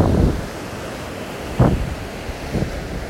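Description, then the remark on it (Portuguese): Ocean waves wash onto a beach one by one with a steady rumbling surf, two distinct breakers crashing over a constant windy roar, with no voices present. “O mar está azul e as ondas quebram uma a uma na beira da praia.”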